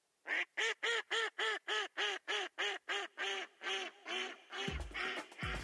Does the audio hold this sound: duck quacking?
yes